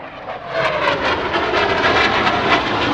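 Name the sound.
airplane flying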